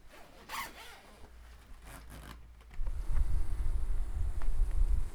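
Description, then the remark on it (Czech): A beekeeping suit being zipped up: a few quick, bright rasping zipper pulls, then a steady low rumble of wind and fabric handling takes over. “Tak klidně můžeme pro oblek, není problém. Zapneme tě.”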